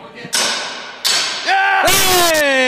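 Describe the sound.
A door is forced open with three heavy, loud thuds about a second apart, each a sharp bang followed by ringing tones, with a wavering voice-like sound between the blows.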